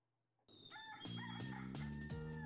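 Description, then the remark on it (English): A rooster crows loudly, a single drawn-out cock-a-doodle-doo with strained, wavering harmonics, starting abruptly after a brief moment of near silence. “Mr. Grizzly, please cue the rooster.”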